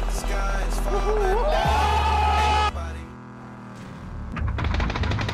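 Gunshots ring out from the house in front, a few sharp bursts partly masked by a loud, revving vehicle engine that rises in pitch before cutting off.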